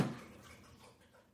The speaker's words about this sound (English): She's not snoring. Yeah, she's thirsty. I want to see how long she'll drink water.